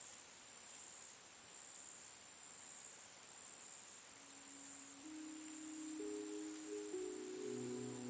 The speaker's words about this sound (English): Night has fallen all around, and only the sound of crickets fills the air as you approach the old library.